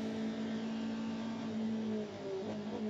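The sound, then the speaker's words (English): The yellow Corvette race car leading the GTD class holds a loud, steady high-revving drone on a clear track, heading down into turn 10A, continuous, with a brief shift in pitch near the end and no voices. “Down into turn 10A with a clear track in front of the lead Corvette for Jordan Taylor underneath the Fox Factory Bridge”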